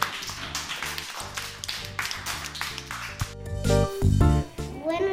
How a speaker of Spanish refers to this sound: Venga, un aplauso para todos. Venga, aplaudimos.